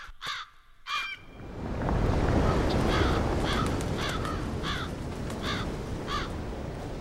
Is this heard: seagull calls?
yes